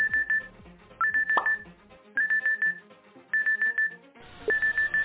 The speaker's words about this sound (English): Right then, the alarm rang on the smartphone.